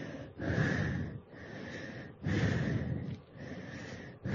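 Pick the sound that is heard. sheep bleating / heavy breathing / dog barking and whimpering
heavy breathing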